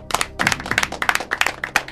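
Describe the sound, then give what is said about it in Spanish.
Loud audience applause for the second contestant of the show ¿Quién quiere ser progresista?: many hands clapping in a dense, irregular burst of sharp claps that keeps up steadily throughout, with no voices heard. “El aplauso fuerte para Gervasio.”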